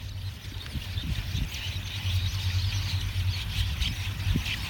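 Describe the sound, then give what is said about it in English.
A dense, steady wash of countless tiny squeaks and chatters from a murmuration, a large flock of birds flying in a tightly knit cluster and changing shape and direction in unison, with a constant low rumble underneath and no voices. “The sound of many birds flocking in a tightly knit cluster, changing shape and direction in unison.”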